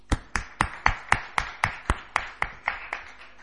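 Applause of welcome and appreciation for a guest at a session, made of sharp, evenly spaced claps, about a dozen in a steady rhythm, fairly loud, fading slightly toward the end with no talking.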